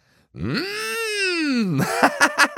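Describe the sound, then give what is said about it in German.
In a read-aloud story, a voice imitates a cow bellowing across a farmyard: a loud, drawn-out moo that rises and then falls in pitch for over a second, followed by a few short, choppy vocal bursts. “Mute es noch einmal genauso laut. Eine der Holztüren des großen Hauses öffnete sich und ein Kuhkopf erschien.”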